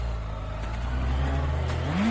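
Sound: motorcycle engine revving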